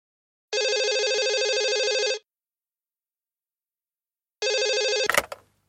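A telephone at Dubai Palm Apartments rings twice, a long electronic trill, a pause, then a shorter second ring cut off by the clatter of a receiver being picked up, with no talking.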